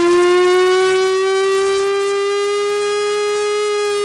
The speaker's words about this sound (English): Don't be alarmed. This is a siren on tape of an actual functional Cold War siren.